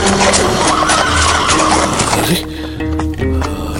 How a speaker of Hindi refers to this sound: चांद मियां को यकीन तब हुआ जब उन्होंने अपनी घोड़ी की वही शानदार आवाज सुनी।